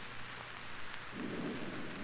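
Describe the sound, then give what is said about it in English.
Steady heavy rain hisses throughout a thunderstorm over the hills of northern Idaho, and partway through a low roll of thunder rumbles beneath the downpour. No voices are heard. “Come in, come in, before this storm blows you away.”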